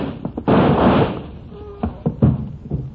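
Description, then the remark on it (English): A door is opened to let in light: a loud, half-second burst of rattling scrape, then a thin creak and a few dull knocks and thuds. “Now open the door so we have some light.”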